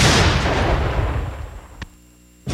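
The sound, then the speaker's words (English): Fireworks made in China, lit for a 4th of July celebration in America, explode with a loud, booming burst that rumbles and fades, followed by a sharp crack and another blast just after, with no voices. “Light some fireworks.”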